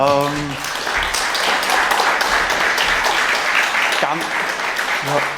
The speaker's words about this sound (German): Ja, ich glaube, den Applaus hast du dir verdient. Ganze Arbeit.